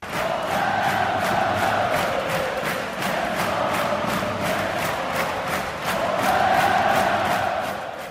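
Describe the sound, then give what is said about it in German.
Pardubice ice hockey fans chant the club's former name, Tesla Pardubice, in unison, a loud massed roar of voices carried over steady, rapid rhythmic clapping that continues throughout, the chant swelling again near the end. “Oder aber sie skandieren den Namen, den ihr Verein von 1960 bis 1991 trug, Tesla Pardubice.”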